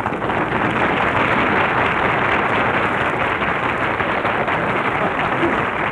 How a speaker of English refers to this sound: Gee, he got more applause than if he were here. He ought to stay away every week.